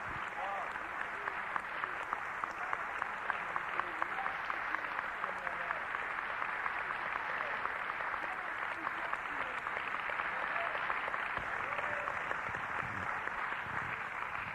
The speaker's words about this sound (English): Why don't we give the Lord Jesus a big clap? Come on. Annetaan taputukset Herralle. Come on, let's give him a Finland clap. Come on. Annetaan oikein kunnolla suomalaiset taputukset Herralle.